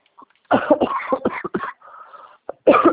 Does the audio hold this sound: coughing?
yes